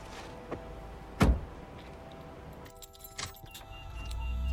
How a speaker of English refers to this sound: The dials on the dashboard light up as he sticks the key in the ignition.